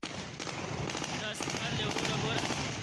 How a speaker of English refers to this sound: Taliban fighters celebrated with gunfire and swooped into the Kabul airport this week as the last U.S. service members left Afghanistan.